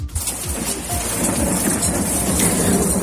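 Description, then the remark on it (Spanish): Heavy rain pours steadily in a dense, hissing wash while low thunder rumbles continuously underneath, loud, with no voices: a storm with hail over the Maresme area and the seaside part of Barcelona, Catalonia, Spain. “Una tormenta con granizo afecta sobre todo a la comarca del Maresme y la parte de Barcelona más cercana al mar.”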